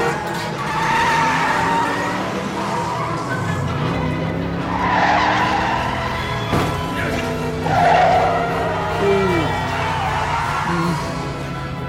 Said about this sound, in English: So there's a bus